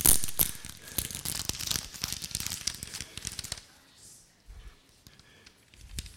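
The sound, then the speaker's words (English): Wrapping paper is torn off a present, loud: a dense burst of ripping and crinkling for a few seconds, then quieter rustling with a couple of soft thuds. “Are you the sort that take hours over opening presents, or do you just rip the paper off?”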